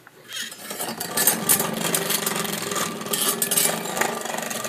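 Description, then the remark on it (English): An old vacuum cleaner in a vacuum cleaner museum runs with a steady, loud mechanical whir and scraping rattle that starts abruptly and holds a constant, gritty tone with low humming undertones throughout. “Crank up the vacuum cleaner.”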